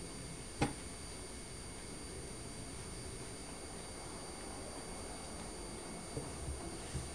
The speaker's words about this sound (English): Listen, another train.